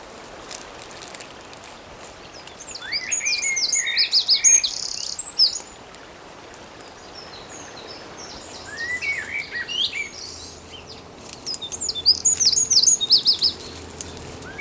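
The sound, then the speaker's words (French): Several birds sing in bursts of bright, warbling phrases and chirps over a steady background hiss like running water or wind, with no voices present. “Des vagues, le chant des oiseaux”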